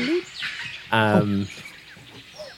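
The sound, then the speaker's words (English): A single owl call sound effect, a short, rich hooting note lasting about half a second, stands out clearly against faint background chirps and rustle. “That's an owl. That's too nighttime.”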